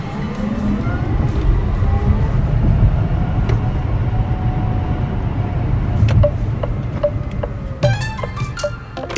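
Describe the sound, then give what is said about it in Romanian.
Busy Paris street ambience: a steady rumble of passing cars and engines, with occasional brief high-pitched squeals and clinks rising over the traffic, no talking. “Ok, și imaginează-ți acum că te plimbi pe străzile din micul Paris în ambianța asta.”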